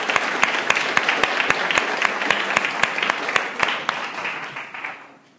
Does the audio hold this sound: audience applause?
yes